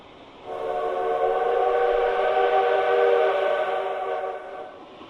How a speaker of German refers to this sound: In die Eisenbahn steigen, losfahren, vielleicht ist es eine Bummelbahn, dann liebe ich es, bei gutem Wetter die Nase aus dem Fenster zu halten und den Wind im Gesicht zu spüren.